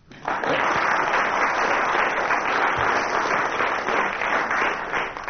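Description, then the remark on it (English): Commissioners applaud steadily for several seconds, a dense, sustained wash of many hands clapping at once, fairly loud, with no one speaking over it. “The commissioners clapping there had misled us.”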